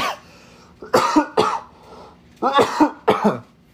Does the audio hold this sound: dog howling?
no